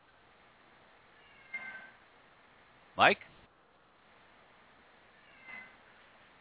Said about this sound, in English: I hear a cat.